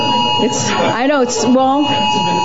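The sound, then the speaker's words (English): An alarm sounds with a steady, high-pitched electronic tone that holds unbroken throughout. It is fairly loud, with people talking over it. “Your last statement set off the alarm.”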